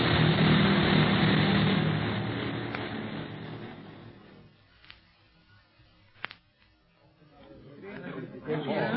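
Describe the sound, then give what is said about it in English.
A propeller plane, out of control after a nosedive, crash-lands outside the city walls of Kano: a loud, roaring engine rush fades over several seconds, then two sharp, brief knocks in the quieter stretch before the rumbling noise swells again. “The plane might catch on fire at any minute. It's a bad crack-up.”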